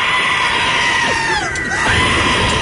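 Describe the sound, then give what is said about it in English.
A goat lets out a loud, drawn-out scream, a harsh, sustained cry with wavering, sliding pitch that fills the whole moment without a break, strident. “Let me turn the goat up.”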